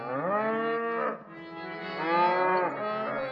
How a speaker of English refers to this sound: Go Mata Ki! Cows are around here.